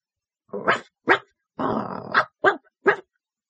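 A dog barks five times in short, sharp bursts, with one longer, rougher bark-growl in the middle, fairly loud, with brief silences between and no talking.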